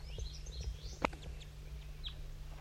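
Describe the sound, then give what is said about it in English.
Several short, high chirping calls of two crossbills and a flock of goldfinches twitter faintly over a low steady hum, broken by one sharp click midway; no one speaks. “Two crossbills and a flock of goldfinches.”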